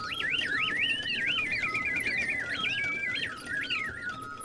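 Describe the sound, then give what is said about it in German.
Continuous mechanical-sounding bird chirping from a box in the music collection of the Deutsches Museum: bright, high whistled trills that sweep up and down in quick repeating phrases, steady and fairly loud throughout, with no voices. “Jetzt gucken wir mal, wo dieses Zwitschern überhaupt herkommt, weil Musikinstrumente und Zwitschern, Vögel machen zwar Musik, das kennen wir ja alle, aber sie musizieren ja nicht in dem Sinne auf irgendwelchen Instrumenten.”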